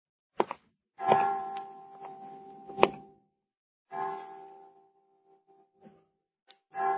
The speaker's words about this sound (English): Well, 5 o'clock. I didn't know the children's home had chimes.